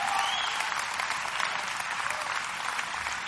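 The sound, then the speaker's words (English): An audience claps together in dense, steady applause that keeps a constant loud level for the whole stretch, a bright crackling wash with no voices standing out. “Clap, man. Help me out here.”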